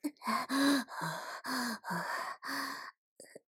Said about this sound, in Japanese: 暑い。体温が上がってきて、息遣いも荒く。